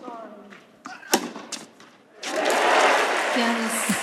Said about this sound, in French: Ce sont de vrais applaudissements